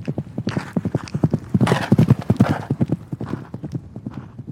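Rapid, steady clip-clop of horse hooves at a fast gait, loud throughout, with a brief horse whinny rising over the hoofbeats around the middle.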